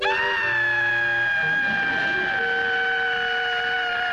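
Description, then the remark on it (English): A loud quitting-time work whistle at 5 o'clock, blown by the boss, Mr. Slate, gives one long, steady, shrill blast lasting about four seconds, its pitch sagging slightly toward the end, with no talking over it. “That slave driver boss of mine waits till the last second before he'll blow that whistle.”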